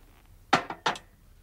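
Whiskey being poured into a glass: a few short, bright glassy knocks and splashes in quick succession, over within half a second, against a quiet background with no talking.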